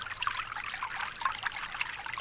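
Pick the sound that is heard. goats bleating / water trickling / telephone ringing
water trickling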